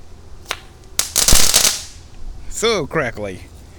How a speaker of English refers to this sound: Here's Crackle Bomb. Let's light a Crackle Bomb. Throw it down there in my yard. Crackly.